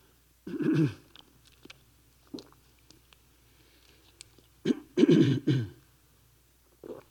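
A few soft sips and swallows come in short bursts separated by quiet pauses, with faint throaty noises and small clicks in between. Nobody speaks.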